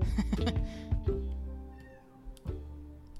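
A cat meows a few times over a low, sustained tonal backdrop, moderately loud, with short sharp accents in between.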